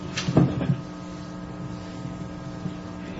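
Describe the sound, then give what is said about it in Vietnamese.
A brief rumbling scrape as a sliding window is pushed open, lasting about half a second, then a steady low hum of background noise fills the rest. “thành ra tôi chỉ đem chúng ta mở bớt cửa sổ, nó hơi nóng cái gì, mở hết thì đó vài thở vô slide cửa sổ ra.”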